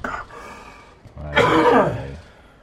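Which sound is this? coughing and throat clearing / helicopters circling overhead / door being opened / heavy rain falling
coughing and throat clearing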